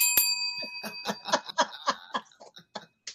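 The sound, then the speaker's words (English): A single bright bell strike rings out, its tone sustaining through the moment while bursts of chuckling laughter follow underneath. “Gotta ring my bell on that.”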